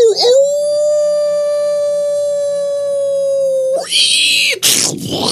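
A single long, steady wolf howl, the Earwolf Media sound logo, holds one pitch for several seconds, loud, then breaks off into a short burst of harsh, noisy sound at the end.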